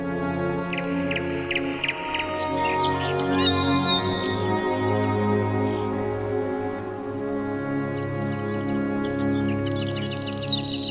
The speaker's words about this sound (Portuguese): Ouça o canto dos pássaros e procure harmonizar-se.